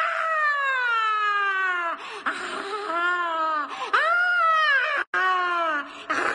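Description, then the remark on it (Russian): A frenzied, high-pitched scream, loud, wailing in several long drawn-out bursts that rise and fall in pitch, with no speech around it. “Раздался неистовый крик и плеск.”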